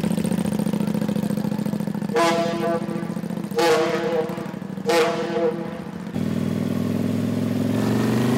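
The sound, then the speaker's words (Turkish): A motorcycle with a passenger in its sidecar and suitcases fixed on an iron rack at the back sets off from Kabataş pier; the engine runs and revs steadily while three loud horn blasts sound at intervals before the engine carries on alone. “Aydın motosikletti. Hüseyin hemen yanında motosiklete bağlı olan sepette oturuyor.”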